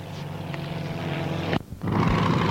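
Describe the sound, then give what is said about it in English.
A Pete and Pole Air Camper little sport airplane's Corvair piston engine drones steadily with a buzzing, harmonic rumble, briefly cutting out and then surging back to full power. “This particular one has a Corvair engine in. Usually has a Model A Ford engine.”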